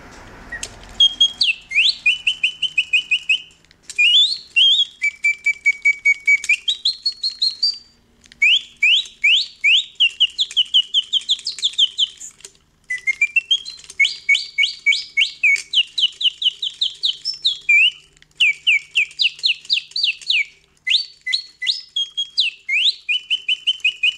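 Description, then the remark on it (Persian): A fully mechanical singing-bird device, built in 1890 by the inventor Bontems in Paris, imitates birdsong: bright, high-pitched trills, chirps and rising whistled notes in repeated bursts separated by short pauses, loud and steady, with no voices. “حتما پیش خودتون فکر کردید که این صدا متعلق به یک پرنده آزاد یا در قفسه، ولی باید بگم که این در سال 1890 از یه دستگاه کاملا مکانیکی که توسط مخترعی به نام بونتمز در پاریس ساخته شد تولید شده”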